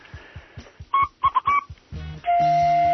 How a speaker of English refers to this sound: The Alabama fog whistle.